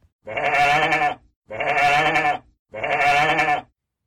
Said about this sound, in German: Oh ja, da hast du jetzt bestimmt erraten, dass es sich um ein Schaf handelt.